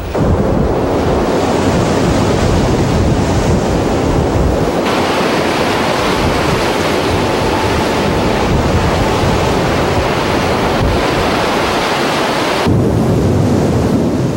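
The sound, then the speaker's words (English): A fierce ocean storm at Heard Island: heavy waves crash and surge continuously while strong wind buffets the microphone, with deep rumbling swells throughout and no voices. “Five days into the experiment, a fierce storm hit Heard Island.”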